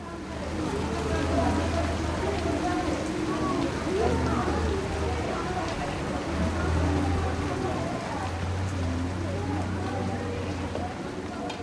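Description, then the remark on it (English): Steady monsoon rain in the rainy season patters continuously at moderate volume, with indistinct voices murmuring in the background and a low engine-like hum coming and going beneath it. “Today, a chance meeting in the rain brings back unexpected memories”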